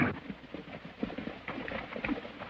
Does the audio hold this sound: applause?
no